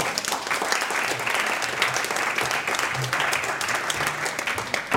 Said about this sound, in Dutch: Ik vraag uw applaus voor Joost van de Kastelen.